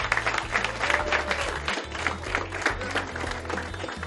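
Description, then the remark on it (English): A group of people applauds steadily to welcome a speaker, with dense overlapping claps at a fairly loud, even level for a few seconds, no voices standing out. “So clap it up and welcome for the news.”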